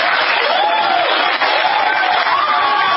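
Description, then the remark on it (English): A large crowd of attendees at the Winter Soldier event applauds and cheers loudly and steadily as a former Marine strips his medals and ribbons from his chest and throws them into the audience, dense clapping with rising whoops and shouts throughout, sustained without a break. “stripping his medals and ribbons from his chest and throwing them into the audience to the applause of attendees at Winter Soldier.”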